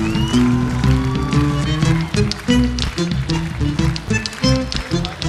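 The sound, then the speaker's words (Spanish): An audience claps steadily and loudly for several seconds at a live music performance, applauding the bass player, while pitched instrumental music keeps playing underneath the applause. “el aplauso para él.”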